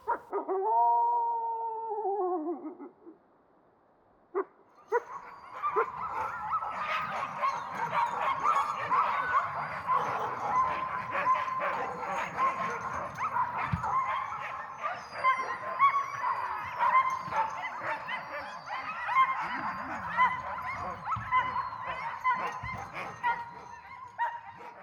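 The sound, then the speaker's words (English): A lone wavering howl opens, then a large pack of about 30 sled dogs at a kennel in the woods, agitated by wolves coming around, erupts into a loud, chaotic chorus of overlapping barks, yips and howls that continues unbroken to the end. “But the reason I put it together with the sled dogs is it's not uncommon for wolves to come around, and that really agitates the dogs.”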